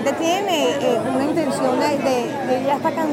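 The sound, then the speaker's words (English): Dense crowd chatter from a huge crowd at an opposition political rally in Venezuela: many overlapping voices merge into a steady, loud babble with no single speaker standing out, holding an even level throughout. “The two have been barnstorming the country to huge crowds.”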